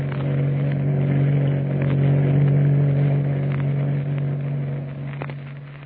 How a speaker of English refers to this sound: Tex and Kukai in the ship's launch, the Stray Hound, roaring through the night off the coast of Chile, pursuing another small craft bearing Commodore Boom Boom, master of the Nazi Sea Raider